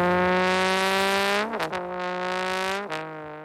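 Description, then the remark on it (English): A trombone, played by a man in the cold on closing day at Park City's ski slopes, blares a loud, buzzy sustained tone imitating a revving engine, with brief pitch dips and stutters partway through like gear shifts, then continues droning. No one speaks. “He says he likes to play engine noises”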